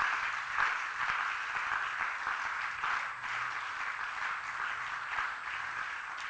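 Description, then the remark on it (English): A crowd applauds steadily, clapping to the glory of God, a dense wash of many hands clapping at once, sustained at an even level throughout without pauses or voices rising above it. “Can I see you clap to the glory of God?”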